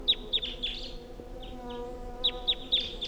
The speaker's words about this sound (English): There's a wild bird here.